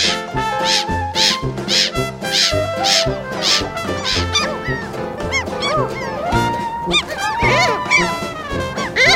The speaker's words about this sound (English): Mediterranean gull.